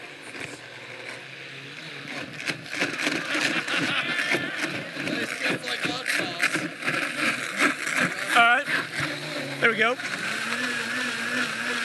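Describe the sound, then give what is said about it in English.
A blender runs on its smoothie setting, blending ginger and beet, whirring steadily for the whole stretch, its motor droning with a dense grinding roar while a person briefly speaks over it. “That's the smoothie setting.”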